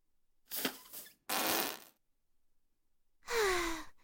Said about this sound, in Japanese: あ、出るよ。おなら出る。出る出る出る出る出ちゃう。